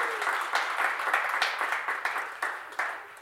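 An audience breaks into steady applause for the speaker's father, introduced as his assistant, many hands clapping together in a dense, continuous patter at moderate volume, sustained for a few seconds with no one speaking.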